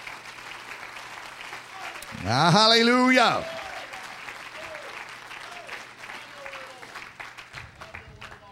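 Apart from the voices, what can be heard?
audience clapping hands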